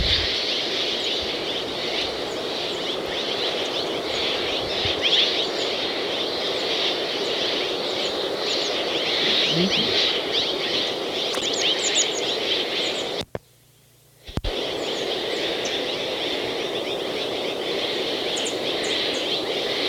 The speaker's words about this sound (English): This is a flock of Mexican jays behind the bridal titmice.